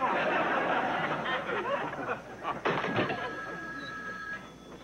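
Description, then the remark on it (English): A telephone next door rings with a steady electronic tone, slightly muffled, over a busy background of voices and clatter that dominates the first half. “It's the phone next door.”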